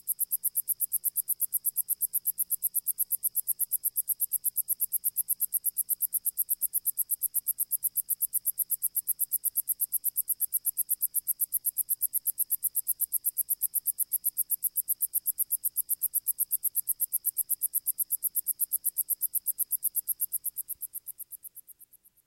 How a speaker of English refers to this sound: Listen to the very high notes of a sword-bearing cone-headed grasshopper, making its dissonant insect music from tall grass at the edge of a highway.